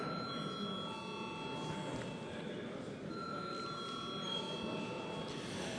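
parliamentary voting bell ringing

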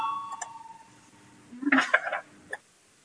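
parliament voting bell ringing

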